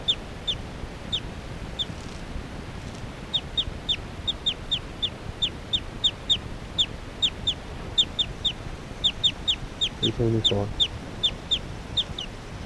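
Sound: occasional bird chirps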